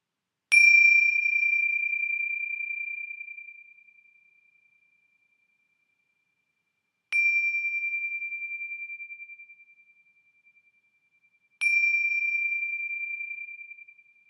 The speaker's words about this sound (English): And so receiving the sound of the bell is a way to answer the call to be mindful and to be awake.